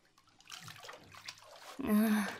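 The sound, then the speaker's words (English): Dirty, brown bath water sloshes and splashes in a tub, building to a louder surge of movement near the end as a dog climbs out of the bath, with a brief voice-like sound mixed in. “Because the water's kind of all icky and brown, and I'm kind of sitting in a body of water with, like, my dirty, icky bath water. Okay, I'll get out.”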